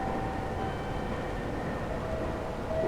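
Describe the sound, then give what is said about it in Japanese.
A train arrives at platform 1 of a station, rumbling steadily in a dense continuous roar with faint metallic whines riding on top, unbroken throughout. “まもなく1番線に電車が参ります。”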